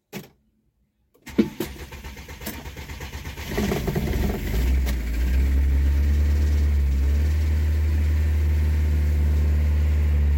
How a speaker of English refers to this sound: Yeah guys, as you can see, one shot, car started, has spark.